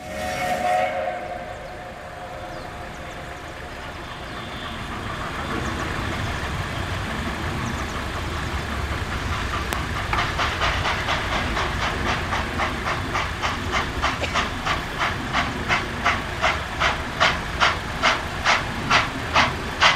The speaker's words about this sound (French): Prenons le train en gare de Bourg pour nous rendre jusqu'à la Cluse par cette ligne touristique qui franchit vaillamment le Revermont et la montagne de l'Ain. Avant de partir, nous nous accordons une pause musicale en roulant avec un train à vapeur.